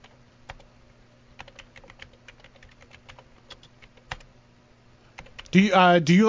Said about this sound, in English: I'm typing notes of all this.